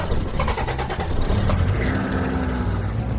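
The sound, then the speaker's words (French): A father starts the family car: the engine cranks with rapid stuttering pulses, then catches and settles into a steady, rumbling hum, with no one talking. “Vous verrez, dit papa, qui alluma le moteur.”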